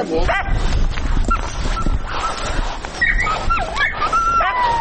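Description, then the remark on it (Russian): Hound dogs bred by a family on a one-hectare plot whimper and yelp, with high wavering whines rising and falling over short barks, continuous against a steady noisy background. “Семья увлекалась разведением гончих собак.”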